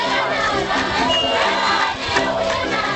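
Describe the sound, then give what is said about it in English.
A large crowd in Botswana cheers and shouts in a dense, continuous roar as Air Force One appears against a clear blue mid-morning sky, many voices overlapping loudly and steadily throughout with a few sharper yells rising above the din. “many of them letting out a cheer when Air Force One appeared against the clear blue mid-morning sky”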